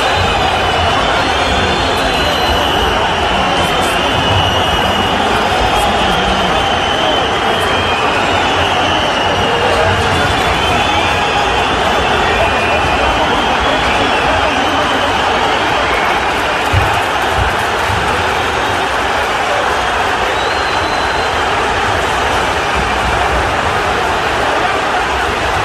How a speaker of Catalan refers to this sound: Ha sonat així, ha sonat així en alguns micròfons que han captat alguns mitjans de comunicació. És àudio en directe del moment en què comencen a saltar aficionats de l'Espanyol mentre els jugadors del Barça celebren.